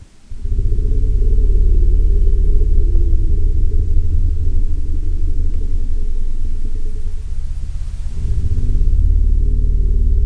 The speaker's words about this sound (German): Die Elefanten, die tröten ja normalerweise, aber die können auch grollen und so einen ganz leisen, tiefen Ton von sich geben. Du hast das Geräusch auch mitgebracht, wir können mal reinhören.